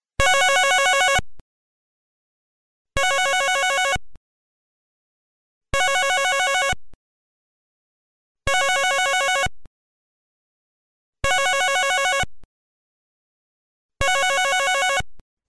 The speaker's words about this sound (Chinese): 小兵的电话都没人听哦， 我们打电话给小兵的父母吧。